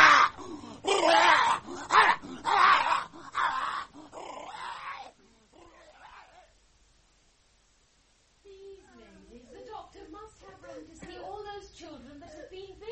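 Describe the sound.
A dog named Simba makes loud, harsh bursts of noise, around eight in quick succession, then fades to quieter sounds and falls silent before a person starts speaking, as a net is slipped over its head.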